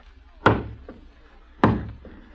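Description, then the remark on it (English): Heavy, loud knocks on a door: two sharp thuds about a second apart, each followed by a softer second rap, with no voices. “Someone at the door.”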